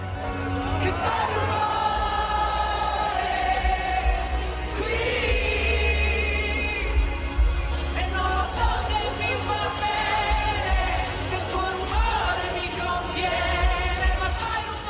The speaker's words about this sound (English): It was a very powerful moment. Let's hear a little bit of it now. This is them singing it in the crowd.